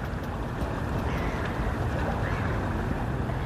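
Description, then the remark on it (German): The Danube river flowing at Regensburg: a steady, dense rush of water with a deep low rumble, holding an even loudness throughout with no voices. “Im Schwarzwald fängt die Donau also an und so klingt sie bei Regensburg.”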